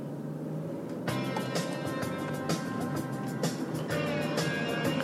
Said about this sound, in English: It's unfortunate you can't hear it very well because I'm driving in a car.